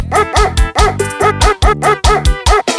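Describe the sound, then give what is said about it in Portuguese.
A dog barks loudly, around eight sharp barks in a fast, steady, almost rhythmic series, with no one talking over them. “Eu gostei desse cachorro, eu achei mais fácil do mundo desse cachorro aí.”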